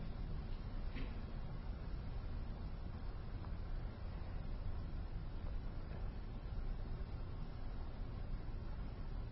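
A muffled, steady low rumble of a car going by outside, with no voices over it.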